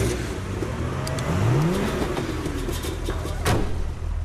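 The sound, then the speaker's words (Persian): A car engine turns over and revs up with a rising whine, settling into a rough, steady idle with a rattly mechanical noise caused by a bent engine fan blade, with no one talking. “یه استارت بزن”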